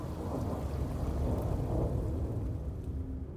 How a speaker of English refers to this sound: A little after 4 p.m., they're in the Bavarian Alps, winding up to the Berghof. The skies darken. It starts to rain.